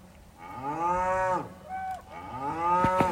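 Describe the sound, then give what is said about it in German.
Cows mooing outside a parked camper van while camping in Scotland, in a few long, deep, drawn-out calls with a short, rising moo between them and a couple of sharp knocks near the end. No one speaks. “Tierischer Besuch am Auto.”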